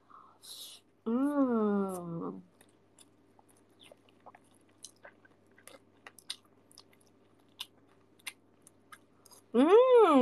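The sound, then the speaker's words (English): Close-up chewing of food, including anchovies, with the microphone moved close, a steady run of soft, irregular crunchy clicks and smacks, framed by brief voiced murmurs at the start and end. “Don't know if you can hear me chewing.”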